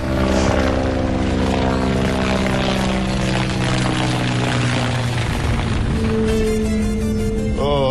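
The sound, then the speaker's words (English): A loud, steady helicopter engine drone with strong harmonic tones, passing overhead, continuous for several seconds with no voices; the helicopters carry people looking for whale vomit. “No, the choppers, people looking for the whale vomit.”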